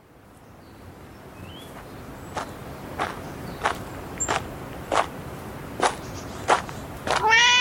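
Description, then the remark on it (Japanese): Footsteps crunch along at an even pace as someone walks toward a temple over a quiet outdoor background, then a cat gives a single clear meow at the very end. “あ、あの時の猫だ。”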